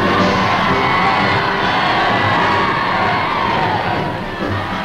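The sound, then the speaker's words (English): A large crowd in Shanghai cheers and shouts continuously, welcoming the Generalissimo and breaking through police lines to surge around the official car: a dense, loud roar of many voices with scattered high yells and whoops rising above it, steady throughout. “And the people turn out to give him an enthusiastic welcome, breaking through police lines to surge around the official car.”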